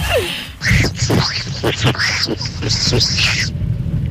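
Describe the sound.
A person imitates the voice of the cartoon duck Donald Duck, spluttering a rapid run of buzzy, nasal quacking syllables for about three seconds, loud before stopping abruptly.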